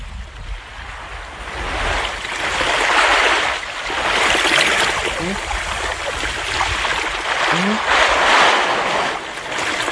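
Steady rush of moving water at sea, with waves swelling and receding in slow surges every few seconds, fairly loud, a continuous broad hiss like open sea churning around.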